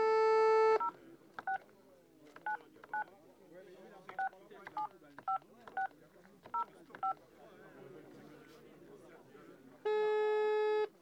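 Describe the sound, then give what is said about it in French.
A phone number being dialed at random from a sofa: a long tone, then about eleven short keypad beeps in quick succession, followed by another long steady tone, with faint background murmur underneath. “Jean est dans son canapé en train de marquer des téléphones au hasard pour saouler les gens”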